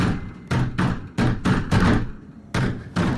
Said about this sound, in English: This time, the knocking's coming from an internal door leading to the next room.